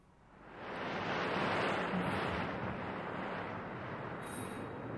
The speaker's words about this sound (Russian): В это время поднялся страшный ураган. Море вспенилось и вышло из берегов. Раздался грохот, и гигантская птица Гаруда показалась на небе.